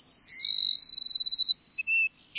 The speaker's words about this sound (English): The sun rising over a South Texas grassland finds a flock of sparrows, like these Cassin sparrows we're hearing, perching atop a mesquite bush. They're awaiting the sun's first warming rays.